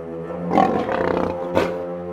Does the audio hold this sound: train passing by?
no